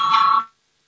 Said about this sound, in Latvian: Lūdzu zvanu, balsosim par pirmo juridiskā biroja iesniegto priekšlikumu.